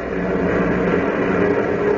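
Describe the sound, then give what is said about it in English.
A steady, loud drone of the propeller engines of a huge clipper airliner flying over the Atlantic toward Lisbon, Portugal: a dense rumbling roar that holds constant throughout with no voices over it. “As we continue now, a huge clipper plane is thundering over the Atlantic toward Lisbon, Portugal.”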